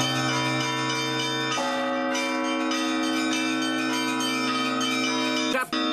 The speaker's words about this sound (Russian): Ольге Кобылкиной 18, на колоколах играет уже 5 лет и вполне официально занимает должность звонаря. И если у тех, кто пришел на ночной мастер-класс в храм Серафима Саровского, и были сомнения, юная мастерица моментально их развеяла.